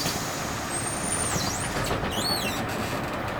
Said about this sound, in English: Harold got on the bus.